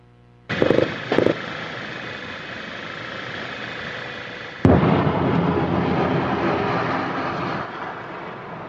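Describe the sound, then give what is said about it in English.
Artillery shells detonate and explode in a city, heard as a car drives through it: sharp explosive blasts with no speech, two quick bursts early on, a sustained rumbling roar between them, then a louder detonation about midway followed by a long, crackling rumble that slowly fades. “We're seeing images of car driving through a city as artillery detonates and explodes, missile launchers, tanks, just, oh my God, look like hundreds of tanks.”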